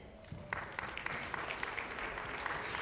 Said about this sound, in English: Hallelujah. Praise the Lord. Give yourself a clap offering.